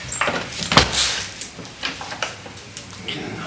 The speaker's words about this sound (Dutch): En dan doe ik hier een deur open. Kijk, oh nee, ik heb er twee handen ervoor nodig.